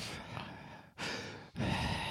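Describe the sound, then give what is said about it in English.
Heavy, noisy breathing: three long airy breaths in a row, each a broad rushing exhale separated by brief pauses, with no talking. “Why are you breathing?”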